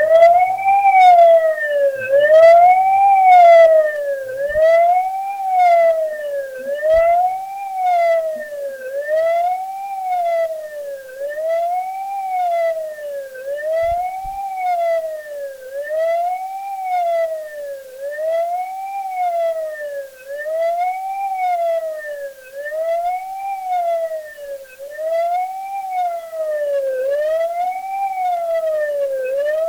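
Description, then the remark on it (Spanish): A loud memorial siren wails continuously at platform 1 of a train station in Argentina, in homage to the victims of a tragedy exactly seven years earlier, its pitch rising and falling in a steady, regular cycle roughly every second and a half, sounding alone without any voices for the full length. “Suena la sirena, el homenaje para las víctimas y el respeto y acompañamiento para los familiares que escuchamos.”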